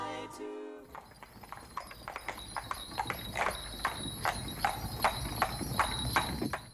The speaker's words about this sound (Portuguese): Ouço trote de cavalo. Deve ser Gustavo Leonardo chegando.